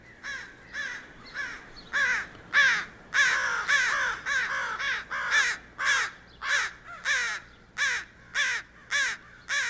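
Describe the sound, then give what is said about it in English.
An American crow caws repeatedly, a long series of clear, harsh calls in a steady rhythm, loud, with no one talking. “And then the American crow is very clear caw.”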